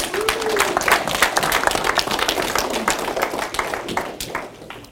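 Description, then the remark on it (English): A crowd applauds steadily for several seconds to welcome a visiting pastor, many hands clapping in a dense, continuous patter that fades slightly toward the end. “And so let's welcome him just with a round of applause.”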